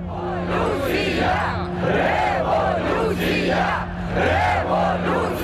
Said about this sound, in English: He was in a crowd of hundreds of students protesting against the decision of the president, Viktor Yanukovych, to renege on a special trade deal with the European Union. There were speeches going on, there was singing, there were flags waving.